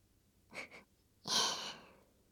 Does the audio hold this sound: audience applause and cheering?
no